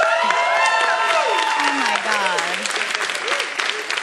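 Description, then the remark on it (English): A studio audience applauds loudly and steadily for a few seconds, dense clapping mixed with scattered whoops and cheers that carry through the whole burst. “Thank you for looking at the applause sign.”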